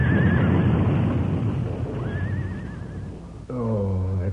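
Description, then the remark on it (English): A horse hitched to a buckboard wagon rears and backs up, neighing loudly several times, shrill wavering whinnies over a rumbling, clattering commotion as the buckboard turns over, ending in a deeper, throaty neigh. “Fool horse. The way he reared and backed up, I jumped off that buckboard just in time.”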